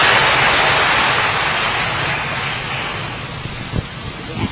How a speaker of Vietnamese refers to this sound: Một tràng pháo tay để gặp gỡ người chị em này.